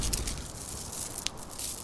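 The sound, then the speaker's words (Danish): A steady, hissy rattle of tiny bead-like plastic pellets pouring and trickling at an oil refinery where oil is turned into plastic, with a few sharper clicks standing out, fairly quiet and continuous throughout with no voices. “Det er lyden af bittesmå kugler, der ligner perler.”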